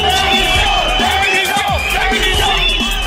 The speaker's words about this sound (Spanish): Gritos contra el presidente francés François Hollande y contra su primer ministro Manuel Valls en pleno Salón de la Agricultura